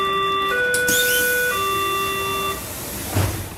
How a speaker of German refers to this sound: ein Türwarnsignal für die Ost-Berliner S-Bahn-Züge zu entwickeln